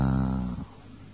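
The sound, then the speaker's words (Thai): A long, slow exhale, breathy with a low throaty rasp, strong at first and then fading away into quiet, made during a standing breathing exercise of deep inhales and long exhales. “ทีนี้เมื่อเราก็กำหนดยืนหายใจเข้าลึกๆหายใจออกยาวๆหายใจเข้าลึกๆหายใจออกยาว”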